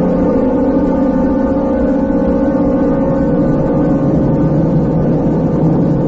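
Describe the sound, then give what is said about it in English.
A steady, loud car engine drones on continuously with a low rumble and even hum, as if heard from inside a moving vehicle. No one speaks. “Stop the car.”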